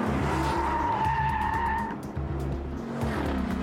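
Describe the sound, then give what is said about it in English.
Car tires squeal in a sustained, high-pitched skid over a loud engine roar during Secret Service high-speed evasive driving training, fading into continued revving and rumbling as the vehicle drives hard. “Secret Service agents and officers must be proficient in everything from firearms to high-speed evasive driving.”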